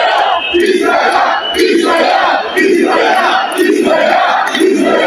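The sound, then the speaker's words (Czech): Several thousand protesters in Zagreb, Croatia, chant in unison, loud and steady, with a rhythmic slogan repeating roughly every second in rising and falling waves of many voices. “Okupilo se nekoliko tisuća ljudi.”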